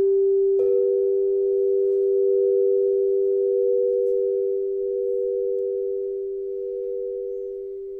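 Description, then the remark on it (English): Two steady sine tones in a 5:4 frequency ratio sound together at a mid pitch, producing a buzzing difference tone. The pure, sustained hum starts abruptly and holds for about seven seconds, easing slightly in loudness, with no voices. “And you're hearing that difference tone. You hear the buzzing in your head?”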